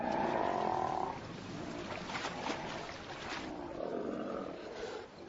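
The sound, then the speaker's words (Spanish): A male South American sea lion roars in deep, rough, croaking bellows, loud, one call running into the next for several seconds with no talking, on an island colony of about 5,000 sea lions preparing to breed. “Sus melenas son tan majestuosas como las de su tocayo felino, y su rugido está a la par.”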